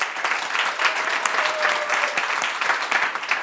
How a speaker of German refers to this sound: Ich freue mich, einen großen Applaus für Dominik Boloff.